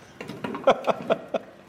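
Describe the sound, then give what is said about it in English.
A door that sticks being kicked open: a run of heavy, uneven thuds and rattles, ending in a sharp bang as it gives way. “I'm going to have to give it a bit of a kick here because it sticks.”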